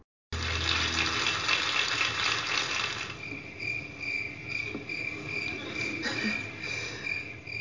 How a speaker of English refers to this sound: When you hear crickets chirping, what do you think of? Warm summer nights, grassy fields, the awkward silence that happens when a joke falls flat?